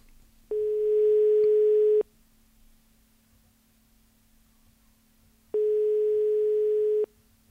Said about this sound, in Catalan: Senyor Oliver, no us agafa el telèfon? Estrany, l'altre dia sí que ens el va agafar aquí a Ràdio Illa.